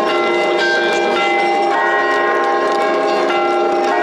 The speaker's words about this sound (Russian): О приезде предстоятеля Русской Православной Церкви в Слободу возвестил колокольный звон церквей.